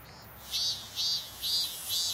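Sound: cicada buzzing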